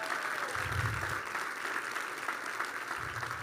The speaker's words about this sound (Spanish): ¿Por qué no damos un aplauso a Dios por eso? ¿Sí?